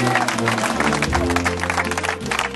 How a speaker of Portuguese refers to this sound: No fim, o mestre queijeiro ganha aplauso.